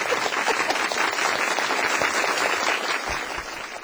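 A crowd applauds with dense, rapid clapping that holds steady and fairly loud for several seconds, then begins to thin slightly toward the end. No voices are heard.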